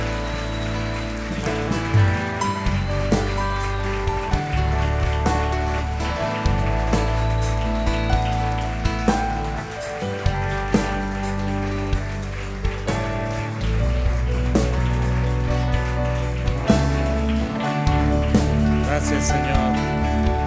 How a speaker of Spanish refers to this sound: Podríamos bendecir al Señor con un aplauso grande por nuestros hijos, nuestros niños.